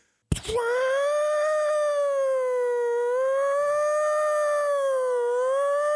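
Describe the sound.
Someone mimics a prison siren with their voice in an improvised white-collar prison riot scene, holding one loud, steady wail that drifts slightly up and down in pitch for nearly six seconds after an abrupt start.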